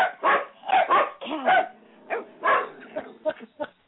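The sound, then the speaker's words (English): Dogs in a house bark in a rapid series of sharp, yappy barks with a few higher yips and whines mixed in, loud and irregular, with no talking over them. “Who let the dogs in the house?”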